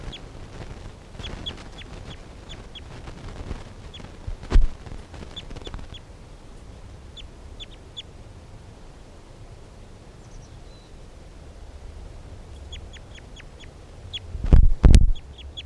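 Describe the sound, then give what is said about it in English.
A bird, recorded as bird 328, calls repeatedly in quick bursts of thin, high chirps over a steady background hiss, with a couple of loud, low thumps breaking in near the middle and end. “So recording bird 328.”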